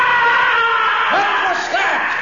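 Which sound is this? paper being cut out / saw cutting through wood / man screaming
man screaming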